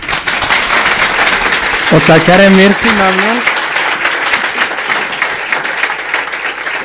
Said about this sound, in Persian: آقای مهندس تشویق.